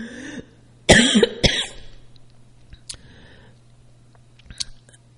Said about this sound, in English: Excuse me. Coughing.